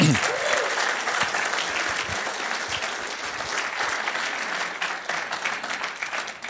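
Steady, dense applause from an audience fills the whole clip, a broad crackle of many hands clapping at an even loudness, with a brief rising voice or whoop at the very start.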